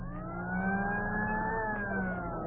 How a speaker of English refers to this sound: The American farm of today is completely mechanized. Threshing machines. Harvesting machines. Tractors.